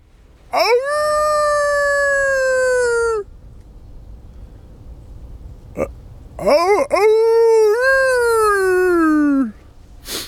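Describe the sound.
A man howls like a wolf twice, loud, in a forest just east of Råbjerg Mile, Denmark, very early in the morning while trying to find a wolf. Each howl is long and drawn out with a sliding pitch, and a short quiet pause separates them.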